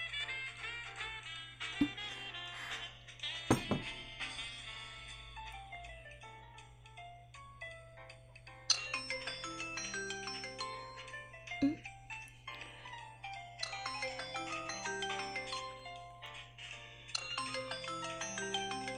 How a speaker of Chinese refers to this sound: 老头子来电话了。喂，这边有点吵，等我一下啊，我去接个电话。